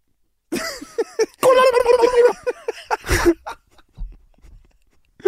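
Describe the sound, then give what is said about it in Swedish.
A human voice does a loud, warbling turkey gobble, a rapid burst of throaty trills that rise and break, followed by a couple of shorter gobbling yelps and some breathy sounds. “Varför fick jag en komplimang för den där otroliga ljudeffekten jag gjorde på kalkon?”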